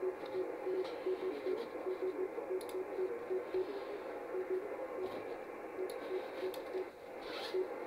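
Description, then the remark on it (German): A weak radio signal, received in Balingen, barely rises out of steady hiss and static, with faint pulsing tones and occasional clicks; any voice in it is too buried to follow. “das war ganz tief im Rauschen.”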